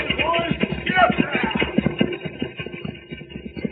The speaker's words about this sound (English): Look, Cisco, the stagecoach to Brimstone come. They must be in a hurry. Those horses are at a high gallop.